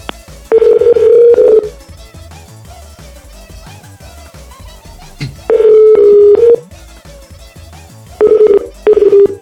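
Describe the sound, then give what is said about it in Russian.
A telephone line tone after a dropped call sounds in loud, steady bursts: a long tone, a pause, then another long tone and two shorter ones, with faint background noise between them and no talking. “ну, я не знаю, что у вас происходит, но это, хотя бы, по крайней мере, это не вот эта типичная фигня, когда телефон вообще что-то гудит не туда.”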